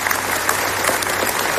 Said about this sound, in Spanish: Con este aplauso se ha roto el minuto de silencio que se ha guardado a mediodía en Toledo tras el asesinato en Mocejón de un niño de solo 11 años, una localidad que sigue en shock por lo ocurrido.